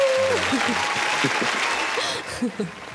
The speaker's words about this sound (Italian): Poi vorrei anche un applauso